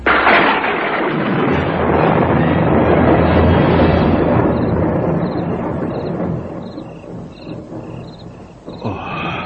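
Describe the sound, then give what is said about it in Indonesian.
A long, loud rumble of thunder fills the air, rolling broadly and slowly fading over several seconds, with faint high chirping tones appearing as the rumble subsides. “Petir. Akan hujan nampaknya?”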